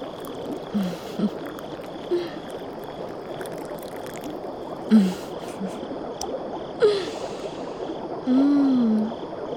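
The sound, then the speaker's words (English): Champagne flown in from Italy poured into a glass as a small shot: a steady fizzing hiss runs throughout, broken by a few short gurgling glugs and a longer warbling gurgle near the end. No one speaks. “Let me pour you a small shot, just so you can get a taste.”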